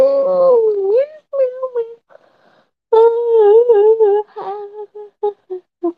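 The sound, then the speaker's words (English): A person imitates a cat with a string of meowing sounds: a long, wavering meow, a short pause, then several shorter mews trailing off. The voice is fairly loud. “Did you not understand? Well, you should have learned cat language.”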